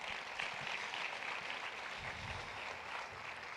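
An audience applauds steadily for a visiting missionary as she comes up, many hands clapping together in a dense, even wash of sound that holds at a constant level throughout, with no voices coming through.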